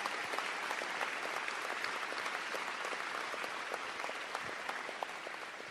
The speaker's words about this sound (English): First, let's give a big round of applause to Howard Zemsky and the whole team for doing a great job.